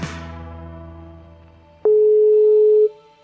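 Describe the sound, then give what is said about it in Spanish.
A fading, ringing telephone tone trails off, then a single steady electronic beep sounds loudly for about a second as an unanswered call goes directly to voicemail. No one speaks. “como la víctima no está recibiendo las llamadas o las está ignorando, entra directo al buzón de voz.”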